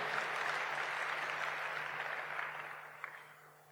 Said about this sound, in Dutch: En tegelijkertijd ben ik al zo ontzettend trots op alle mensen die dit mogelijk hebben gemaakt. En laten we beginnen om die een applaus te geven.